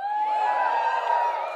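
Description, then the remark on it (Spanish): A large group of people shouting and cheering together in praise of God's mercy after being asked to shout, a loud, sustained roar of many voices that holds steady for about a second and a half. “¿Cuántos de ustedes se atreven a gritar ahora mismo?”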